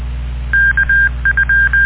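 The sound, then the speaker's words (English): Radio repeater beep tones: after a brief hum, a steady high-pitched tone pulses on and off in a string of short and longer beeps at one unchanging pitch, with no talking. “Let the beep come first. Let the repeater drop.”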